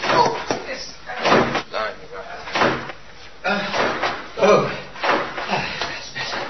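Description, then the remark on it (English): A revolving door turns with a series of repeated bumps and thuds, moderately loud, its panels knocking in an uneven rhythm while indistinct voices murmur in the background. “Mind the revolving door.”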